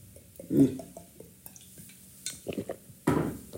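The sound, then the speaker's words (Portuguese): Someone takes a sip of water: a glass knocks lightly, soft slurping and gulping follow, and a final louder swallow comes after a short pause. No one speaks. “Pá, olha, vou dar aqui um golo de água, se me permitem.”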